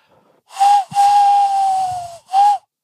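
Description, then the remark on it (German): Someone with slightly cold hands blows into cupped hands to imitate a tawny owl: three breathy, hollow hoots, short, then long, then short, at a steady pitch with heavy airy hiss, the long note sagging slightly. “Der Waldkauz.”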